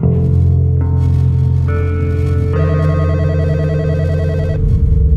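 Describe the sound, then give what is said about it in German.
A home telephone in the Netherlands rings loudly and steadily with no one speaking, its tone shifting in a few stepped pitches and warbling rapidly through the middle before cutting off; the Israeli embassy is calling. “Bei Spitzers in den Niederlanden klingelt das Telefon.”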